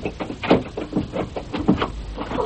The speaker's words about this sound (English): I'll unlock now. Don't you touch that handle. Nor this side of the door.